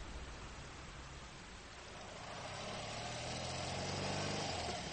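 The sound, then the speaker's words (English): A motorbike with a sidecar runs steadily as it travels north through the Badlands, its low droning hum swelling slightly louder partway through as it revs up, with no voices present. “Me, in a motorbike sidecar, the bones on a litter behind. Langton in goggles driving.”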